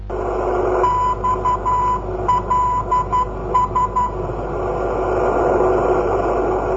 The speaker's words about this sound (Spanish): Aquella senyal, no identificada, semblava procedir d'algú que desconeixia el morse. Qui l'enviava? Era realment una senyal de socors? Segons el control aeri de Barcelona, procedia d'algun lloc situat a 40 milles al nord-est de València